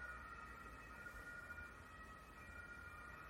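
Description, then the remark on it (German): Emergency vehicle sirens from a large emergency deployment wail continuously, several overlapping tones blending into a steady, unbroken drone over faint background rumble, with no voices. “Mensch, hörst du die Sirenen? Das ist ja Wahnsinn. Das hört ja gar nicht auf.”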